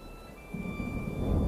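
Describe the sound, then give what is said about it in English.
A deep rumble of thunder before a storm swells up from low and grows louder toward the end, with no one speaking and a faint steady tone lingering in the background. “Storm's coming.”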